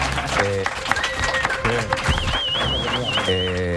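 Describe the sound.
A crowd applauds steadily and loudly, with cheering voices and a high, wavering whistle rising above the clapping.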